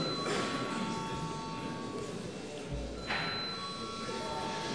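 A chairman's bell in the Saeima, the Latvian parliament, rings before a vote in a steady, sustained tone with several bright pitched partials, continuing for the whole stretch over a constant murmur of background noise.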